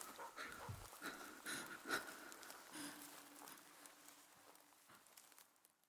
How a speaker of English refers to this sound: Our breathing is labored as we try to move as quietly as possible.